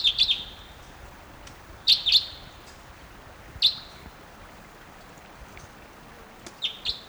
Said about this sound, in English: And there's still at least two or three crossbills in the trees up above the stream. Stop. 9:08 a.m. Here comes the type 2.